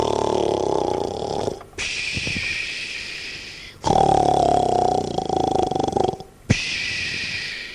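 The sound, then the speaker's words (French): A voice imitates the loud snoring of a dragon that has fallen asleep: about three long, exaggerated cycles of raspy, rumbling breaths, each lasting a couple of seconds, with no other talk. “Et bientôt, il s'écroula, endormi, dans l'air. Il ronflait.”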